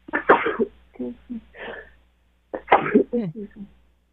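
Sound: sneeze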